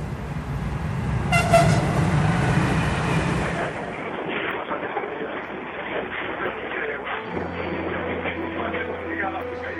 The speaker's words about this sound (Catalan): Carai, però si és el meu tren. I l'andana està a l'altra punta de l'estació. Ai, Déu meu, que el perdo.